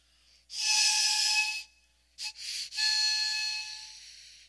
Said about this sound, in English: Did you hear that? Can you hear it? The shepherd is calling. His sheep may be in a crowd of other sheep belonging to other shepherds, but they hear his voice or a short tune beckoning them to follow.